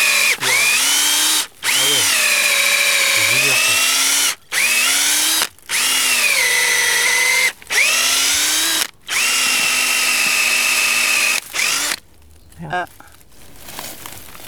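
A power drill bores into a tree trunk to tap its sap, which flows into a bottle, in several long, loud whining bursts, its motor pitch dipping under load, with brief pauses between. Faint crackling and rustling follow.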